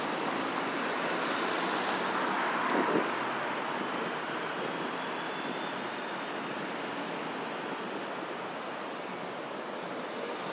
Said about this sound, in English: Okay, I think that traffic's moving, so we'll get to go in a second, I think.